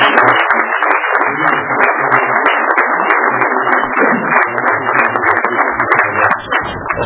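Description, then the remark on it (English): A crowd at a Loyal Order of Moose gathering applauds the standing assistants and Sergeant at Arms, a dense, loud wash of many hands clapping at once that holds without a break for several seconds before easing slightly at the end. “By way of further, I'd like to once again have all my assistants, Sergeant Arms, please stand up and be recognized and give them the applause that they so justly deserve.”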